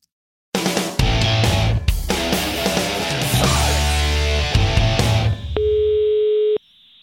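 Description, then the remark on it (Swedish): Electronic phone-call tones play loudly with no voices as a call is placed to someone at a hotel in Las Vegas, a busy stretch of layered beeping tones followed by one steady, sustained ringing tone that cuts off near the end. “Det är Fighterpodden med Elin, Mårten och Simon som ringer.”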